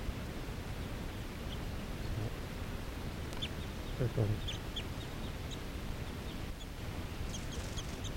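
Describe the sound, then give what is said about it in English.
Crossbills give repeated short, high chips and chitters from low in trees by water and snow, one a male about 6 feet away, faint and scattered over a steady background rush of wind or water. “There's some wild birds just hanging around, looking down at the water and snow, low in the trees. Chittering.”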